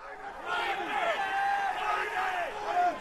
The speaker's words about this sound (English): That's the din at the pit at the New York Mercantile Exchange, where they trade oil futures, screaming numbers that determine all kinds of things in our reality: prices of fuel, cost of medicines, chemicals, foods.